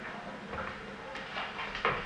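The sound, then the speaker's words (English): A lawnmower motor drones steadily outside, a continuous rough mechanical hum with a few brief swells and sharper bursts over its unbroken roar. “You couldn't hear with that lawnmower stuff.”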